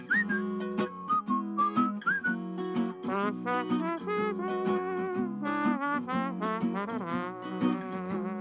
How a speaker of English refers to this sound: That's a great song, and I love the way you do it. I love the whistling, that little, and that little trombone sound that you get at the end there.